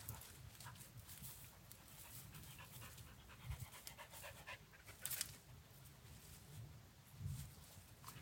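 The search dog Breeze, out searching with its team around a henhouse, pants steadily in quick, rhythmic breaths, with a few sharper bursts of movement or sniffing and soft rustling underneath, all fairly quiet and with no speech.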